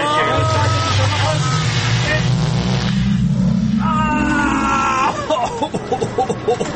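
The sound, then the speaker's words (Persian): A loud time machine activation effect: a continuous mechanical whirring hum that steps upward in pitch over several seconds, layered with swirling noise, then breaks into choppy bursts as it winds down. “بریم ماشین زمان جان که خیلی شده بزن.”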